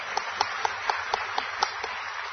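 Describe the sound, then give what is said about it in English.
Steady, dense applause from an audience for the City of Dallas police and criminal intelligence, with a regular beat of slightly louder claps cutting through the wash of clapping about four times a second. No one speaks. “So please give them another hand of applause.”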